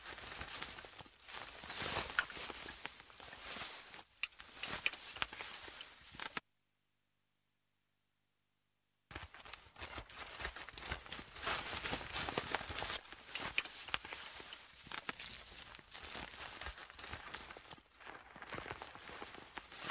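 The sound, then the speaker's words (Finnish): Steady footsteps walking over soft, springy moss in a quiet park, with crunchy rustling at each step and a short silent break partway through; no talking. “Voi ajatella, että talloo metsää jokaisella askeleella.”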